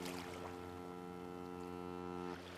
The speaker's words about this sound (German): Von hier aus können wir die Hoffnung sehen. Das ist es, was die Fähre bedeutet, wenn sie langsam auf den Hafen von Laki zusteuert.